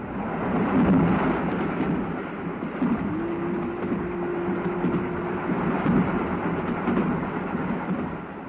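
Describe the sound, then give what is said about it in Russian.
A train rumbles steadily along the rails with a dense, continuous roar and faint rhythmic clatter; a low sustained hum rises partway through, and no one speaks. “Когда поезд миновал семафор, пассажир отворил дверь вагона и по сквознячку провел девушку в коридор.”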